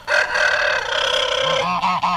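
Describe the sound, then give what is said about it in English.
A chicken calls outdoors on a farm, a loud, drawn-out squawking cry that runs nearly two seconds, then breaks into a couple of shorter clucks at the end. No one speaks. “Oh, you have a chicken out there, too.”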